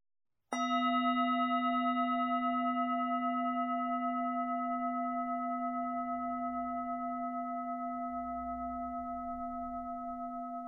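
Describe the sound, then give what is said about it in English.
A single meditation bell is struck once to begin a guided meditation and rings out with a clear, steady tone and bright overtones, sustaining and fading only slightly over about ten seconds with no talking. “We'll begin and end the meditation with the sound of the bell.”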